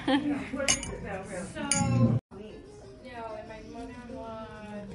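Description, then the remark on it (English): Glasses of ginger lemonade clink together in a toast at lunch at a restaurant with an ocean view, a couple of bright, short chimes, while people talk and chatter throughout. “I think these are ginger lemonades. It's like a beautiful drink. And yeah, cheers.”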